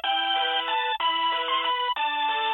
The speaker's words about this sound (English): Ah, Greensleeves. A classic. Penned by Henry VIII for his beloved wife Anne Boleyn. And after listening to this synth version while hanging on the phone, you too may experience a pain in the neck.